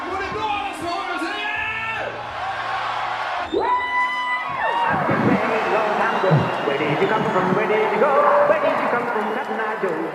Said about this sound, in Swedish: När … och hårdrockskillarna kommer in på scen i Borlänge är det fullsatt. Och publiken skriker.